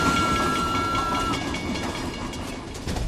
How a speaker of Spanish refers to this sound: En el corazón de Budapest, en el año 1944, cuando los trenes hacia Auschwitz no dejaban de circular